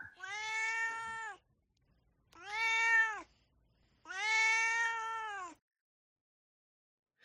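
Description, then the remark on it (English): The cat Duarte meows three times, long drawn-out and fairly loud, each call about a second or more with short pauses between, with no talking. “Now it is time for Duarte's Corner, where my cat Duarte shares his opinions.”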